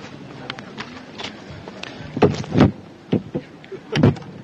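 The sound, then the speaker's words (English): A second mic stand is knocked over and topples, a cluster of loud thuds and clattering knocks in quick bursts, followed by a few scattered bumps as it settles, with faint handling noise between. “You knocked that other mic stand over.”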